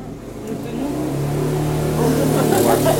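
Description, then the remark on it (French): A small engine, like a scooter's, revs steadily and loudly, its buzzing pitch holding and swelling slightly over three seconds, with no talk over it. “Aussi dans l'harmonie là, il n'y aura plus de scooter.”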